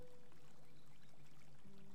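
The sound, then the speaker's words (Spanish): Soft, steady flowing water, like a gentle stream, murmurs quietly and continuously, with a faint low hum sustained underneath and no voices. “Y comienzo a escuchar el sonido del agua.”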